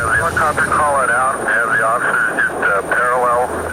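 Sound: police helicopter flying overhead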